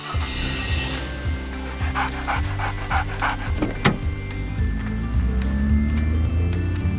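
A small dog, Bobby, pants in quick, rhythmic breaths inside a car being driven early in the morning to a new home, over the steady low rumble of the car engine, with a brief power-window whir partway through.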